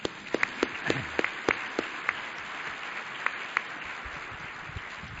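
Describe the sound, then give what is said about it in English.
A crowd applauds steadily, a dense wash of many hands clapping with a few sharper individual claps standing out, sustained at moderate volume throughout with no voices. “If I didn't think it would go to your head, I would give you a round of applause for your outstanding leadership in AIDS and public health for the last three decades.”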